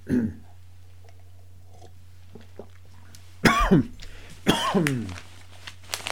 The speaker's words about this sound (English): And with that, I will pause for a second to have a sip of coffee.